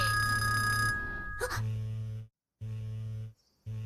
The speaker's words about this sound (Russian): Это же телефон Мио-сэмпай. Их же надо отключать в кинотеатрах.